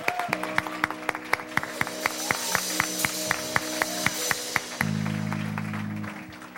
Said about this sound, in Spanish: The one who asks, dele un aplauso receives. Al Señor.